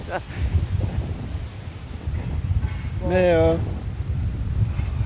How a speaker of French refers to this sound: Il y a un grand vent, c'est oui, hyper connu ici. Hein. C'est ça. C'est hyper connu.